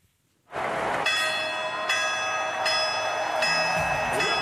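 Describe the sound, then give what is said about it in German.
A large bell in the Stade de France at the Paris Olympic Games, rung by Olympic champions, rings out repeatedly, each loud strike arriving about once a second and layering over a long shimmering resonance, with a faint crowd-like murmur underneath. “Was eine der vielen besonderen Ideen der Spiele von Paris ist, dass nämlich im Stade de France eine Glocke steht.”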